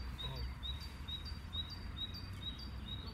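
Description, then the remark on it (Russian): A small bird repeats short, high, bell-like chirps in a quick steady rhythm, about three per second, fairly faint over a low background rumble. “Там как колокольчик кто-то мой тут. О, слышите? Здесь тоже.”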